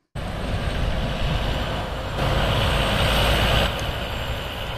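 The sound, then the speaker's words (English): A steady, heavy rumble of heavy haulage trucks diverted from the central business district onto untarred detour roads through high-density residential areas in Mutare, Zimbabwe, loud, with a swell of louder engine and road noise midway as one passes. “the local authority diverting heavy haulage trucks from the central business district to use untarred roads”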